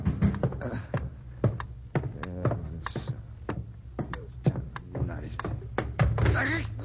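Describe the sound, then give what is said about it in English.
A rapid, uneven series of wooden thuds and knocks as someone hurries downstairs in the middle of the night to answer pounding at the door and bumps into a chair, with a low muffled voice underneath. “Rat, that chair got no business of being here.”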